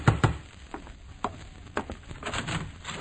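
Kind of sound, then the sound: household object, knocking on a door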